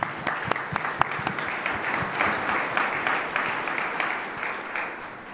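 Steady applause from a group, many hands clapping in a dense, crackling wash with sharper individual claps standing out, holding fairly even loudness for several seconds without speech.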